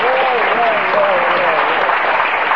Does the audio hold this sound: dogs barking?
no